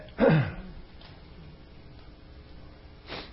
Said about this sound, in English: Just a minute. I need to sneeze. It's hard to concentrate when you got a sneeze building.